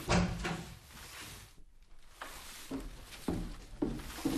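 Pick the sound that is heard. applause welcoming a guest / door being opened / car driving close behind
door being opened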